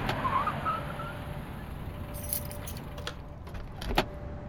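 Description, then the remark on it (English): A car arrives outside a hospital emergency room, its engine rumbling steadily while, partway through, keys jangle and sharp clicks and knocks sound as a man steps out of the car. No one speaks. “When he stepped out of the car, I could tell he was shaken.”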